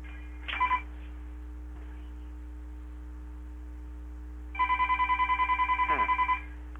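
A telephone rings with a rapid electronic trill, one short burst followed after a pause by a longer warbling ring, heard over a steady low hum with no one speaking.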